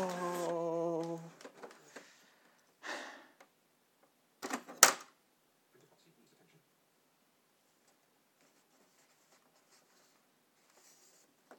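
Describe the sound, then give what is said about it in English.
A printer whirs with a tonal motor hum, then feeds paper in a few short, scraping mechanical bursts and clicks before jamming and stalling into near silence, moderately quiet. “Please don't jam, please don't jam, please don't jam.”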